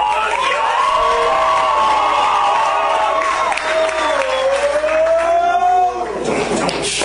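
A loud crowd cheers and whoops over a steady wash of clapping to start a simplified rap battle game called Beastie Rap, with high sustained shouts rising and falling for about six seconds before the noise briefly thins.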